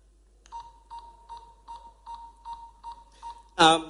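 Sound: game timer buzzer beeping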